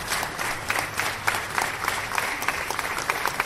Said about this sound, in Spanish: Junto al cantábrico en la iglesia de San Pedro, Arturo Fernández se ha llevado su última ovación.